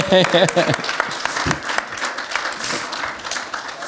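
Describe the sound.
An audience bursts into applause for a performer, a dense wash of many hands clapping that holds steady for a few seconds, with a voice briefly heard over it at the start.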